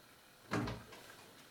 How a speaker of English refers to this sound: He opens the door to the kitchen and peers in.